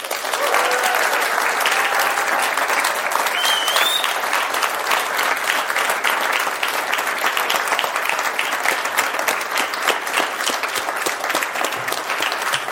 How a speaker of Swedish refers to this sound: Och här för att göra det är dess programledare Ann Heberlein. Stor applåd!